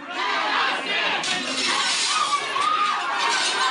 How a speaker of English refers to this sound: That's an anti-government mob shattering a glass door while storming the Idaho Capitol in August over pandemic restrictions.